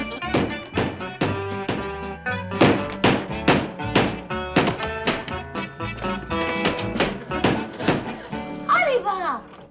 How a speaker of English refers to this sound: I'm hammering on some new shingles.